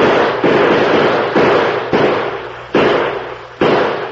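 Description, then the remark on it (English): A rapid, uneven volley of about six loud gunshots fired out of a window, each a sharp blast trailing off into a rumbling echo before the next shot cracks, with no voices. “Pump some more slugs out this window with me.”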